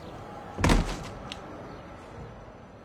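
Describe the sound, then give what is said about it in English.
A single heavy, dull thud as someone is hit on the head with something heavy, a solid blow with a short low rumble, followed by a faint knock and then near silence. “So, normally, someone would hit me on the head with something heavy and knock me...”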